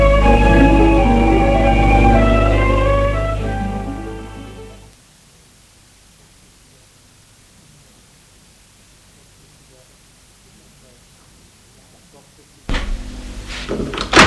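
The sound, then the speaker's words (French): A sustained tonal drone fades out into near silence, then near the end a door opens and closes with a short, fairly loud burst of scraping, knocking noise as a man comes in and shuts it. “La porte s'est ouverte, c'est son père. Il entre et ferme la porte.”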